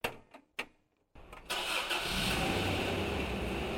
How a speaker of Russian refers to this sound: Мы сели в автомобиль, и машина медленно двинулась вверх по дороге.